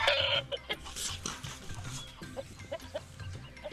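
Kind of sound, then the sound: bird, hens clucking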